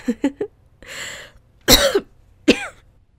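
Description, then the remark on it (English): A person with a cold coughs and clears their throat: three quick throaty hacks, a raspy breath, then two harsher, louder coughs with short pauses between them. No one speaks. “Attractive way of coughing.”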